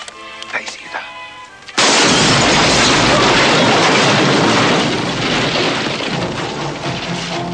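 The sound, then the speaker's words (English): A brief stretch of muffled voice gives way to a sudden, very loud explosion of a rocket-propelled grenade fired into a family's living room, its roaring blast sustained and rumbling for several seconds before easing slightly. “And with a smirk and a grin, they fired off a rocket rappel grenade into the living room with great explosions.”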